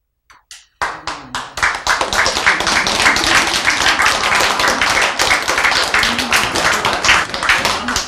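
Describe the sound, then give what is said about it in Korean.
A crowd bursts into applause after a few scattered opening claps, then sustains dense, steady clapping for several seconds, fairly loud, with no talking over it. “왜 박수 쳐요?”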